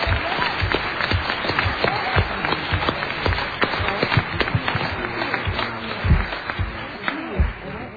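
An audience gives a round of applause for everyone who has gotten them here, clapping steadily for several seconds, dense overlapping claps forming a continuous, fairly loud patter with a few sharper individual claps standing out.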